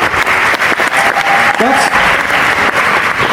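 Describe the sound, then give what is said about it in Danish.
Sustained applause from an audience, a dense steady patter of many hands clapping at a fairly loud level, with a brief tonal whistle-like sound briefly cutting through midway. “Så blev klappet.”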